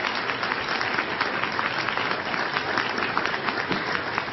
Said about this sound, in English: And listen to the idiots clap.